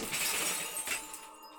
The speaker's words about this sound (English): I run to the fire extinguisher. I take off my shoe and break the glass.